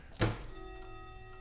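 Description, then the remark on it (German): A single sharp knock of clock chime rods striking each other, followed by a sustained metallic ringing tone that lingers and slowly fades. No voices are present. “Das sind die Stäbe aneinander.”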